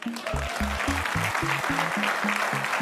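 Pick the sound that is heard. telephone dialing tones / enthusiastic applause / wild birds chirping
enthusiastic applause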